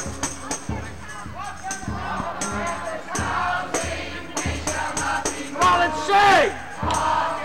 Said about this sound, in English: The crowd is now singing. We shall not be moved.